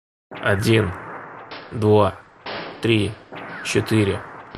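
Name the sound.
series of gunshots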